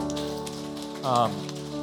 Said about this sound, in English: Yeah, you can clap.